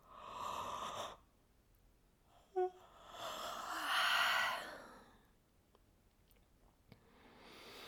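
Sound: a yawn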